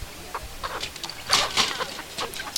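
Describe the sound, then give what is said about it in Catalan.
A hen clucks close to the microphone at the Corral de la Vila in a quick, uneven series of short, clipped notes, a little louder in the middle, with a quiet background and no talking. “Una cosa, a veure si les gallines tenim més sort.”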